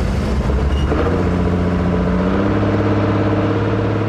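A steady, loud low engine drone with a deep rumbling hum, its pitch shifting slightly as a barge engine works to maneuver the barge into position at an oyster reef, carrying a pile of oyster shells for the reef, piloted by Captain Mike Steelman, with no voices over it.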